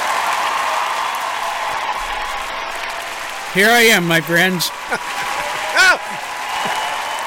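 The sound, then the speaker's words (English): A studio audience applauds and cheers steadily throughout after a show's guest is introduced, a dense wash of clapping that stays loud while a man speaks briefly over it. “You stirred them up, stirred the crowd up. Quiet down, everybody.”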